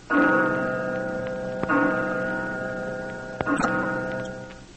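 clock ticking and striking

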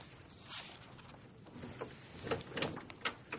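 door being opened

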